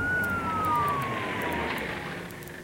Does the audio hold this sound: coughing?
no